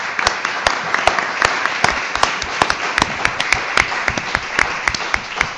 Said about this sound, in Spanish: Muchas gracias. Un aplauso para los ponentes.